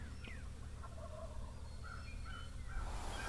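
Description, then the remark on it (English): A wild turkey gives a series of short, high yelps spaced a beat apart, fairly faint over a steady low rumble, with no one speaking. “Now, these are big, healthy birds. And they hear a call.”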